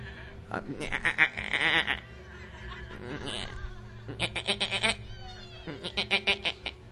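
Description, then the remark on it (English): A person imitates a goat's bleat as the goat noise in "Old MacDonald Had a Farm", with several wavering, trembling "meh-eh-eh" calls in quick pulsing bursts, loud, separated by short pauses. “And on that farm he had some goats, E-I-E-I-O. What noise do goats make?”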